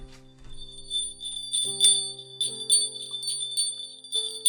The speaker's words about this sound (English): We've got the jingle bells. Why is it a dog? I don't know. It just is. So our jingle bells are from a door knocker.